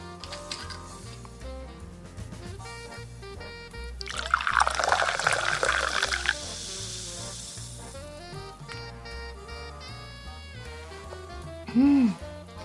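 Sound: sparkling water being poured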